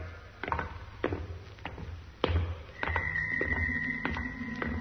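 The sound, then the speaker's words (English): A heavy door closes again with a thud amid a run of knocks and clunks, followed by a steady mechanical whine and hum. No voices. “There's that noise. What the... It's all right, Doc. It's the door. It's closing again.”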